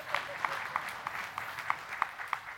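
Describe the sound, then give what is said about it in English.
Sparse applause from a small audience: a handful of hands clapping in a steady, fairly even rhythm of about nine sharp claps, moderately loud over a faint background hum. “I'll take those two claps.”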